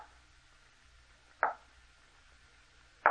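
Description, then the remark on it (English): Two separate knocks at a door, spaced well apart, each a short dull thud that fades quickly. Between them there is only a faint low hum, with no voices. “It sounded like someone at the door.”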